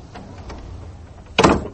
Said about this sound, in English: I closed the storm porch door behind me, felt for the back door in the dark, found it.